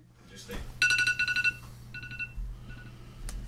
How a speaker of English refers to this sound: All right, so that was our 3.5 minute timer.